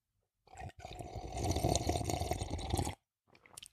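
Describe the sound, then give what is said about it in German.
A wet slurp of someone sipping from a ceramic mug raised in a toast, drawn out for a couple of seconds after a brief catch, followed by a quieter short sip. “Ich erhebe mein Keramikhümpchen auf euch zum Wohl.”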